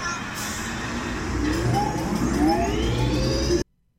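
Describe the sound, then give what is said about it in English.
A steady, loud mechanical rumble of the Slinky Dog Dash roller coaster train in Toy Story Land, with a whirring tone that climbs in pitch over a few seconds before cutting off abruptly. No voices. “Is that Slinky Dog Dash? It is!”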